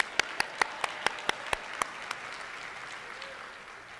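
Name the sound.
church audience clapping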